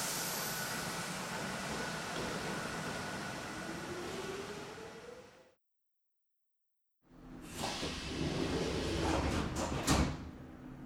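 A train about to depart rumbles steadily with a faint whining tone rising beneath it, then after a brief silence comes a busier stretch of clunks and door-like thuds over the continuing engine noise.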